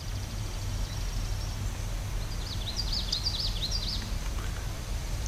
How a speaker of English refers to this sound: That sounds like a yellow throat. Were you near water there? Yes. Oh, there you go. Yeah, probably a common yellow throat. Ooh. Yeah. Which is a beautiful little warbler, you know. A black eye mask, yellow throat, obviously.